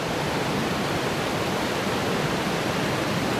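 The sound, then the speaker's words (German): Water pours steadily over the regulating weir at Port near Biel, Switzerland, which regulates the water of the Seeland, a dense, continuous rushing roar that stays even throughout, with no voices or other sounds breaking through. “wir stehen hier in Port beim Wehr, das hier eine eigentlich ganz zentrale Funktion hat.”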